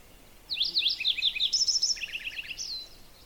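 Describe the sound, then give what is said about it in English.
A Lincoln's sparrow in boreal woods sings a rapid, bubbling warble of high notes, tumbling through several trilled phrases for about two and a half seconds, clear against a quiet background. “That's a Lincoln's sparrow. Doesn't sound like your run-of-the-mill sparrows. It sounds so warbly.”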